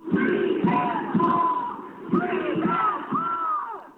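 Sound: protesters chanting a slogan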